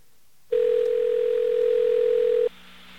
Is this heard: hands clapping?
no